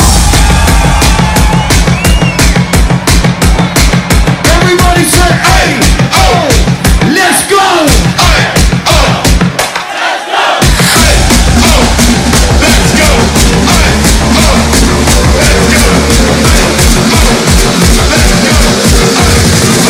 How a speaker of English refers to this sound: This is one of the craziest American crowds I've ever fucking seen. Make some noise for yourselves right now!